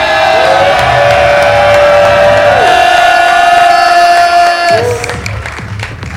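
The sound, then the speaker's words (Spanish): A loud crowd in an event hall erupts in sustained applause and cheering as Mr. Can Calle is introduced, with whoops and shouted voices rising over dense clapping for several seconds before it starts to thin slightly at the end. “Damas y caballeros, un fucking fuerte aplauso al héroe, al ser de luz de Puerto Rico, Mr.”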